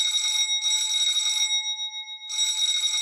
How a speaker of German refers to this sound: Da klingelte es an der Tür. Und zwar Sturm.